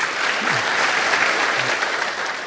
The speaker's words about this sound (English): And go ahead and just hold your applause till I got five or six.